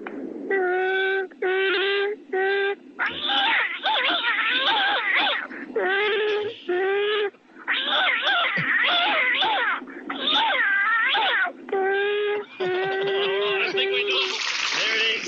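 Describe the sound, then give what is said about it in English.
A person loudly imitates a growling, roaring Wookiee-like alien creature trying to eat a cat, tangled up with yowling, screeching cat cries, a near-continuous run of strained, wavering vocal bursts with no words spoken. “I've got an impersonation of my brother Chewbacca trying to eat a cat.”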